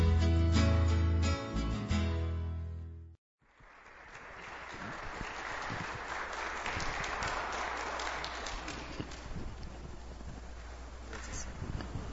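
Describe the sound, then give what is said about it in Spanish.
A short musical phrase cuts off, and after a brief silence a crowd breaks into steady, dense applause that keeps a fairly even level for several seconds. “Con todo el aplauso, me lo voy a creer.”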